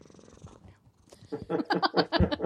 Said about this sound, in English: You've got a happy cat. Oh, yeah. I heard him purring there.